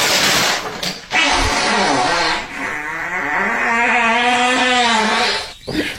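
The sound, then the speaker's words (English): A long, loud, drawn-out fart with a buzzy tonal quality, its pitch climbing and wavering like an engine revving up, broken by a couple of short pauses. “But this sounds like a go-kart taking off.”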